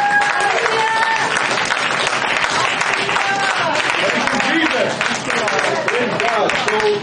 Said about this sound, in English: Can we give the Lord a good hand clap for that?